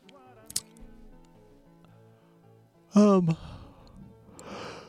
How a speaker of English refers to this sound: Sorry, I'm yawning, everybody.